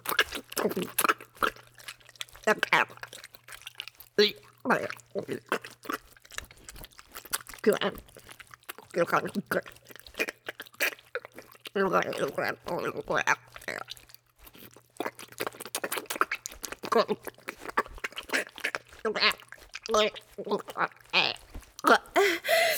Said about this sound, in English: So much thicker drool. Dripping down my tits onto the ground.